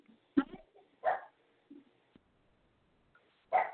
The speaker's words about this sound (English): My little pug, he's trying to say hello to you.